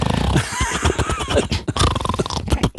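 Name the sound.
imitated snoring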